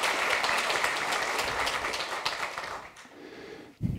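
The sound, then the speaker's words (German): An audience applauds to welcome people who have just arrived, with dense, steady clapping that holds strong for about three seconds, then thins and fades out, ending with a brief low thump. “Applaus für euch.”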